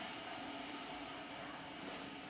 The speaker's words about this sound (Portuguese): Apesar do chiado da... O pessoal que vai ouvir a gravação depois não vai entender pelo Brasil, né? Que aqui no Sul a gente tem um hábito do chimarrão e a chaleira chia, e aí a gente desliga.